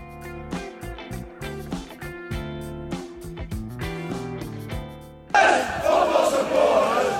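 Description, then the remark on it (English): A stretch of tuneful music plays, then cuts abruptly to a loud, dense roar of Newcastle United fans shouting and cheering together around St James's Park for the last couple of seconds, on the day the club's sale went through. “what you'll hear now is the atmosphere around St James's Park from various points in the day”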